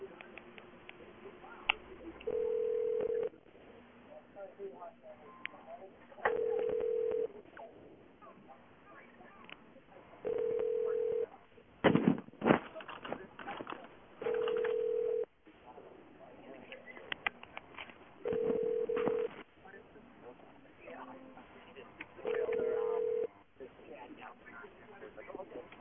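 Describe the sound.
A telephone line rings back over and over during a call to a resort, six steady mid-pitched tones about a second long spaced a few seconds apart, heard through a narrow phone connection with muffled voices and background chatter underneath.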